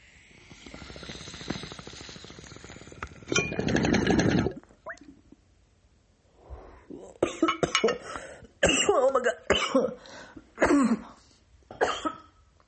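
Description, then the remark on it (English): A water pipe with Alien OG cannabis in the bowl bubbles and gurgles steadily for a few seconds, swelling louder before stopping, followed by a run of harsh, spaced-out coughs. “So we're going to fucking get these bubbles going.”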